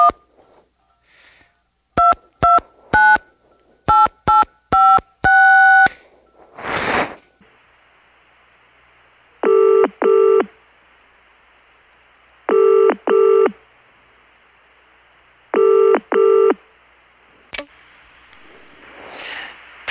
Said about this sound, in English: But I need to actually take a moment. I need to make a phone call, so just hold on a second.